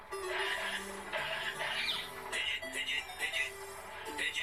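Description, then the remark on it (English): A voice imitates pigeon sounds with a string of warbling, chirpy vocal bursts, rising and falling in quick succession over a few seconds without any real words. “Hey, I just remember. I speak pigeon.”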